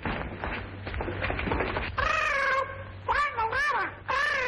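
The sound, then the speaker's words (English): A parrot in a courtroom squawks in a string of loud, wavering, nasal cries, following a couple of seconds of scuffling noise, with brief gaps between the calls. “What does this parrot mean by find the letter?”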